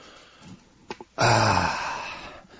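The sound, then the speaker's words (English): A dog in a house gives a couple of quick breathy snuffs, then a loud, sustained low growl lasting about a second that slowly fades, with no talking. “And sorry for the interruption, folks. I'm just trying to keep this dog from...”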